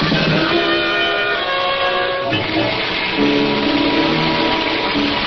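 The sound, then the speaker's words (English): Heavy rain pours in a dense, unbroken hiss that holds steady and loud throughout, with faint sustained tones threaded beneath it and no voices. “Oh, the rain's much too heavy for that.”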